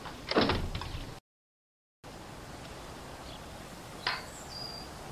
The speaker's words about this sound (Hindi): तुम दरवाजा बंद कर लो, मैं तो अंदर हूँ।